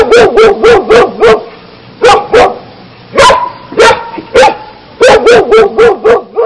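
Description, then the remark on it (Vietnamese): Two hunting dogs charge at and fight a shaggy dog, barking and yipping in rapid, overlapping bursts, loud, with frantic snarling energy as if scuffling; short pauses break up the volleys. “Hai con chó săn quay trở lại, nặng nề. Chúng lại xông vào chó sù.”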